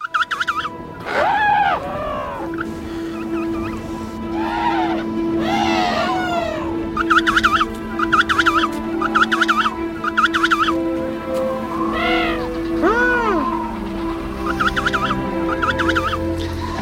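A crowd of penguins calls over and over, loud overlapping trumpeting and braying cries with rising and falling pitch, over a steady low drone.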